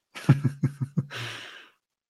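A person yawns: a short run of pulsing, voiced sounds gives way to a breathy, trailing exhale, all within about two seconds and with no talking.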